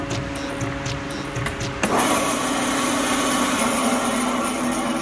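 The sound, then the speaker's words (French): A motorized butcher's saw whirs steadily, then bites into an ice core sample from about 400 to 500 metres deep, cutting a thin section to examine the ice crystals, with a sudden louder, gritty grinding that continues evenly to the end. No voices are heard. “Donc pour ça, on utilise une simple scie de boucher.”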